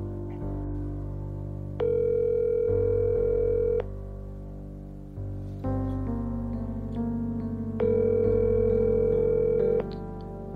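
A phone line rings back twice while calling a cell phone number, each steady electronic tone lasting about two seconds with a long pause between, heard through the earpiece over a constant low hum.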